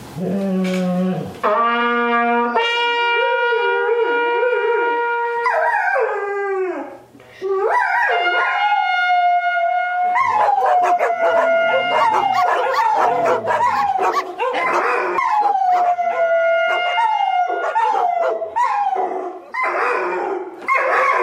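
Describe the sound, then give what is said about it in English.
Several neighborhood dogs howl together, set off by one dog howling along when a note above a C is played, in a loud, overlapping chorus of long wavering wails sliding up and down in pitch, mixed with yips and short barks, continuing without pause and with no talking. “So we have this crazy cacophony of howling dogs.”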